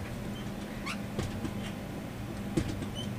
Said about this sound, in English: I got a little bit distracted by the sound of your chair squeaking through the microphone.